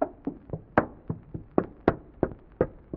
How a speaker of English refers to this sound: I thought I recognized his footsteps. Seems to be in kind of a hurry, though.